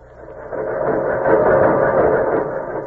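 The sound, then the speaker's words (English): A threshing machine on a mechanized American farm runs with a steady, dense mechanical roar and rattle, swelling slightly louder midway and continuous throughout, with no voices. “Threshing machines.”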